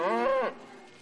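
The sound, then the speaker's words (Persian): A single short moo from a cow in a herd tracked individually by GPS collars, a rich, droning low call lasting about half a second that bends slightly in pitch before fading into quiet outdoor background. “این دستگاه از سیستم مکانیابی جهانی یا جی پی اس برای ردیابی تک تک گاوها استفاده میکنه.”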